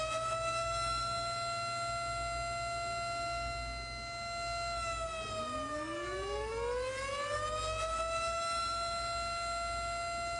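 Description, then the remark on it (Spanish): A loud, continuous evacuation alarm siren holds steady harmonic tones, while a second wailing tone sweeps upward and crosses through them midway before settling back into the constant blare. “Alarma de evacuación.”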